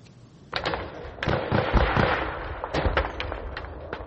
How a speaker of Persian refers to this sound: صدای تیر و توپ در سرحد تاجیکستان و قرغیزستان دوباره بلند شد. در بعضی از گوشه ها دود به هوا پیچید.